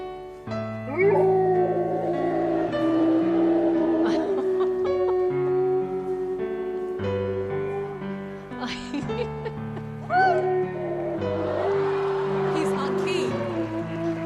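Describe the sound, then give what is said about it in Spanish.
Oscar, a three-year-old Golden Retriever on America's Got Talent, howls and yips in long, wavering cries over steady piano chords played by his owner. His voice rises and slides in pitch, fairly loud throughout. “de America's Got Talent, de este programa que siguen millones de espectadores en Estados Unidos, pues llegó una mujer con un perro, un Golden Retriever de 3 años, se llamaba Oscar el perro, y bueno, pues así sonaba Oscar con su dueña al piano.”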